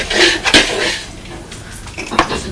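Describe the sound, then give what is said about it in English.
Dry cat biscuits for Freddie the cat rattle and clatter into a hard food bowl in a bright, scattered pour, with a couple of sharper clinks standing out among the steady patter of kibble. “While you're mixing that, I'm just going to put some biscuits in Freddie's food because she's hanging them in.”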